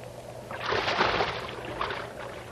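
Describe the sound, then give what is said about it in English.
A heavy splash as a person drops about 12 feet into water, a broad rushing burst that swells quickly, then trails off into softer sloshing and churning. No one speaks. “Come on in. The water's fine. It's about a 12-foot fall.”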